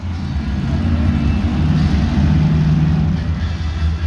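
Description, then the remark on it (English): Monster truck engines roar steadily and loudly at a November rally in a stadium in Madison, Wisconsin, a deep low rumble with a sustained droning hum running underneath, as the trucks idle and rev together without pause. “So in November, I went to a monster truck rally.”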